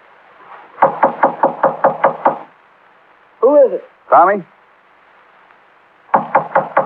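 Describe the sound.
A quick, firm burst of about seven knocks on a door by police, then a couple of short shouted calls from a voice, followed by another rapid run of four knocks.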